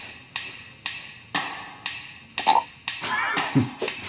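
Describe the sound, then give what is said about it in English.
A short burp sounds near the end, following a steady run of sharp, evenly spaced clicks or taps roughly twice per second. No one speaks. “What are these miscellaneous sounds? Good question. Burp.”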